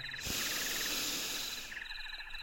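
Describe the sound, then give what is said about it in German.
A long, deep inhale, a steady airy rush lasting well over a second, with faint chirping like insects or frogs continuing softly in the background. “Wir atmen nochmal ein.”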